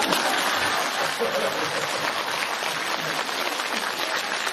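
Steady applause from an audience, a dense crackling wash of many hands clapping at an even loudness for several seconds, with faint voices underneath.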